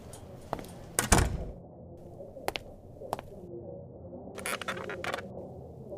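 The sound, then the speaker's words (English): A door shuts with a solid thud early on, followed by a few scattered clicks and light knocks amid otherwise quiet. “Close the door, would you?”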